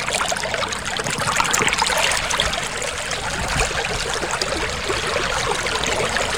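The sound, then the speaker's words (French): Rushing floodwater from the mountains pours steadily along a former riverbed in the Negev desert of southern Israel, dry for years, after a season of torrential rain: a dense, continuous churning roar with bubbling and splashing, loud throughout, with no voices. “À sec depuis des années, le lit d'une ancienne rivière a subitement été à nouveau rempli par une eau venue directement des montagnes après une saison de pluie diluvienne.”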